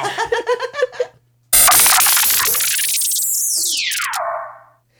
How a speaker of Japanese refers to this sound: ロケット花火失敗でね